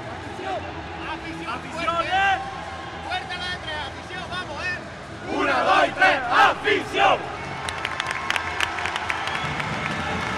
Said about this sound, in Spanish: Y este, el grito final de proclama de la Aljustana, que se veía con toda la fuerza del mundo para hacerse con el campeonato en ese tercer partido que se disputaría el domingo en Cabra.